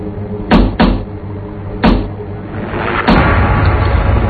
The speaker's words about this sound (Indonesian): dia mengetuk-ketuk bagian belakang mobil kami.